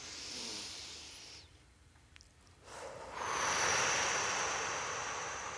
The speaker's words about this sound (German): Und schon dieser eine Atemzug, wirklich nur bis 4 und bis 6, führt dazu, dass wir uns automatisch ruhiger fühlen.